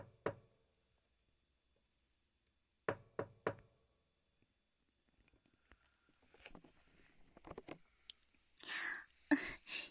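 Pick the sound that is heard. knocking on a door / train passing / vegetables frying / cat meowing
knocking on a door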